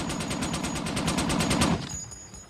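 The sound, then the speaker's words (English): A picked-up gun is fired into the air in a long, rapid burst of shots in a fast, even rhythm, loud and sharp, lasting under two seconds before the noise cuts off and fades out. “Eddie fires the gun into the air.”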